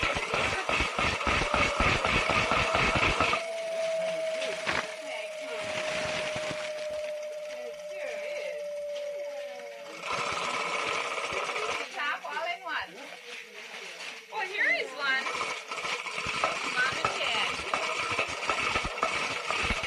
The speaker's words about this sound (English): Hey, do you like that choo-choo train?